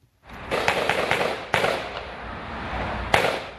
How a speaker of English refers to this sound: Gunfire echoed through the streets of Thousand Oaks, California, as police raced to the scene of the latest American massacre.